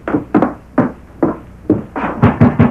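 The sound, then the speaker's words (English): Heavy, urgent pounding on the sheriff's wooden front door at night, about eight or nine loud thuds in an uneven rhythm that quickens toward the end, with no voices. “The sheriff had already locked his office and retired for the night, but Bates rode to his home, threw himself from the saddle, and ran to the sheriff's door.”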